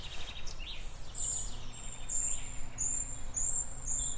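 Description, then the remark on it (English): A treecreeper gives a series of about five thin, high-pitched whistled calls at short, fairly even intervals, carrying over a steady low outdoor rumble with no voices. “So there was a sort of a referee's whistle, which is the call of a tree creeper.”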